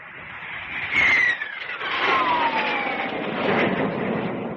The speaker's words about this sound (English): Hey, that's one of those new Air Force jets. It must be some fun to be up there.